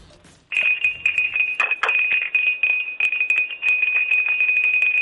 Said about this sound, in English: You got a bell. Nice bell. Where'd you get that from?